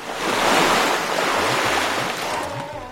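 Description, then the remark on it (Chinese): Ocean waves surge and wash continuously in a broad, roaring hiss, swelling and easing slightly over a few seconds, with a faint low rumble and wind-like noise underneath; no voices. “只有几个比较幸运的人，抱着大木桶或者是破裂的船板，随着一阵阵的海浪漂浮到一个非常偏僻的无人荒岛上。”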